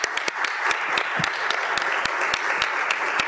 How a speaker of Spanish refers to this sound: A mí me da muchísimo gusto saber que en este Senado de la República hay 11 diputadas federales. De verdad, un aplauso para ustedes.